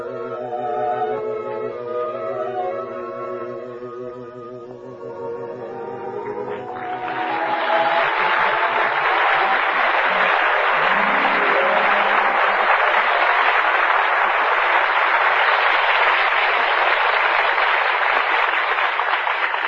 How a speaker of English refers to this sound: I heard all that applause outside. You killed them. They loved you, huh? Ah, that was for ….